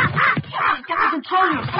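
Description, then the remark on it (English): A parrot squawks loudly, four harsh, rasping bursts in quick succession with brief gaps between them. “He opens his heart to parrot she gave him.”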